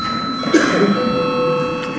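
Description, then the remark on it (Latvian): A steady electric bell rings continuously in the Saeima (parliament) chamber, signalling a scheduled break in the session. Its bright, sustained tone holds unbroken for the full two seconds, with faint murmur underneath. “Debates vēlās turpināt deputāts Šlesers, bet ir pienācis laiks kārtējam pārtraukumam, tādēļ lūdzu zvanu.”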